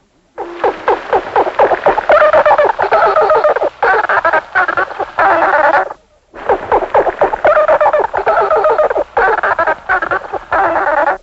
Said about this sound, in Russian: Своеобразные звуки издают и живущие в морях млекопитающие, например, дельфины. Вот их голос.